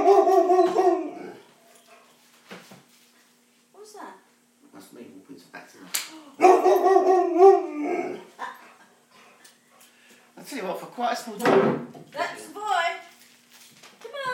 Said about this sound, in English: Quite a small dog. Hi. Might be barking. No, I didn't ask you to bark.